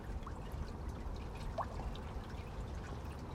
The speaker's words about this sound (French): Nous voici au bord du lac d'Annecy. Plus exactement sur le lac, parce qu'on est sur un ponton. Avec le clapotis des vagues.